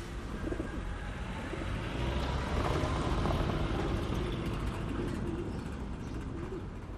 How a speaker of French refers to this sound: Si longtemps, à l'arrêt de bus à République, il y a un oiseau, il y a surtout un pigeon, hein, un pigeon qui fait le tour.